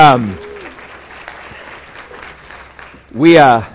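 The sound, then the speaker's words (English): A sold-out church audience claps together to give God a hand, a steady, dense wash of applause lasting about three seconds, with a voice briefly heard at the start and a louder voice rising over it at the end. “Let's give God a hand.”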